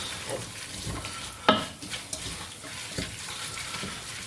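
A little water is added to a hot pan of frying bell peppers, hissing and sizzling briefly with a sharp burst, then settling into a steady crackling fry with faint stirring clatter.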